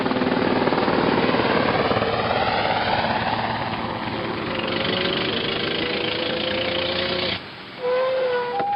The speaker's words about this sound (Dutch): De lijfwachten van meneer hier zijn er ook al vandoor. Daar gaan ze, in meneers mooie helikopter.